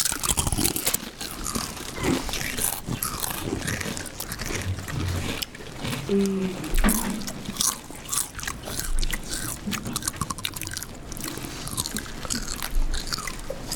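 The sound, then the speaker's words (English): Several people crunch Doritos chips at once, a dense, continuous wash of loud crackling bites and chewing that keeps going for the whole stretch, with no talking. “Can you feel the Doritos in your mouth?”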